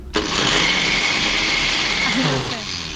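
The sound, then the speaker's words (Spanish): A blender whirs loudly and steadily for a few seconds, a dense high-pitched motor roar that starts abruptly and eases slightly near the end, with faint voices in the background. “Respuesta es licuadora.”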